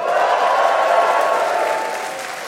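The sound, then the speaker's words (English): A live audience at the annual European Barn Doors and Gates Expo applauds in a steady, dense wash of clapping that holds fairly loud for a couple of seconds, then begins to taper off slightly toward the end. “This edition of the podcast is a very special one, as it's being recorded in front of a live audience.”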